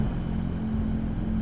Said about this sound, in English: On a stormy night, Renee drives Danny in their cruiser.